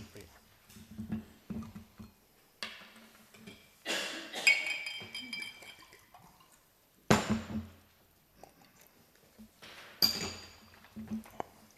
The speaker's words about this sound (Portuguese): Se não se importa, só vou beber um bocadinho de água.